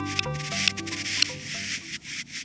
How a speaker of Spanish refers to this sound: ¿Qué son estos extraños chasquidos? ¿Será un mensaje secreto en código Morse? Son los llamados de un correlimos canelo macho cortejando una hembra en su área de reproducción en el extremo norte del círculo ártico.